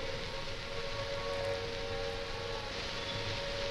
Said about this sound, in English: This is Trafalgar Square. The noise that you hear at the moment is the sound of the air raid sirens. I'm standing here just on the steps of St. Martin's in the Fields.